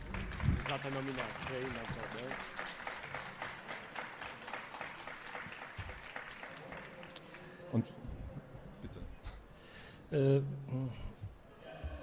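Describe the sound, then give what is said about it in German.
An audience breaks into steady, dense welcome applause, also applauding a nonfiction book's nomination for the German Youth Literature Prize (Deutscher Jugendliteraturpreis). The clapping keeps going for several seconds, with a voice speaking over it before it thins out near the end. “Und vielleicht können wir den Begrüßungsapplaus gleich mit dem Applaus für die Nominierung verbinden.”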